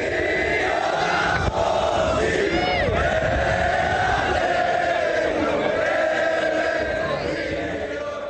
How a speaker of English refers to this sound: After the rabbis left, the protesters began to sing the Israeli national anthem.